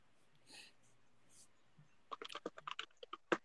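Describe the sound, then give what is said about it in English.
A quick, uneven flurry of sharp clicks from typing on a computer keyboard, fairly loud, starting after a second or two of quiet breathy rustling and a faint low hum. “Oh, God, you hear the little fat boys from the keyboard.”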